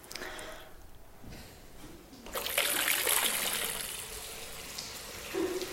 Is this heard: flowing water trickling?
yes